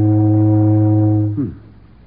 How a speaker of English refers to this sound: I hear steamboat whistle. Maybe we should take boat to America.